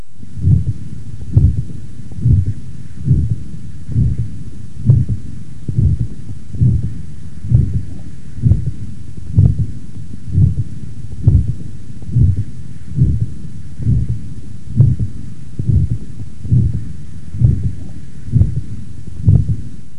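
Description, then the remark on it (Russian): A steady run of heartbeats, about twenty in a row, each a low thump followed by a soft whooshing aortic systolic murmur, recorded through a stethoscope from a patient with atherosclerosis of the ascending aorta, with a faint hum beneath and no talking. “На следующей фонограмме представлен другой вариант систолического шума на аорте, зарегистрированного у пациента с атеросклеротическим поражением восходящей части аорты.”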